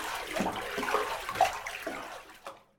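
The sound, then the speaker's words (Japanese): Bathwater in a tub sloshes and splashes in short, irregular bursts as hands push the bath foam aside, with soft bubbly crackles between the swishes. “泡どかす。邪魔邪魔。”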